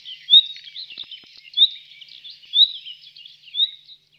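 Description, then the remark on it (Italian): A nightingale sings alone, a run of high, warbling chirps and trills with four louder whistled peaks spaced about a second apart, clear, with no talking. “questo qui che stiamo sentendo adesso è proprio il canto classico dell'usignolo.”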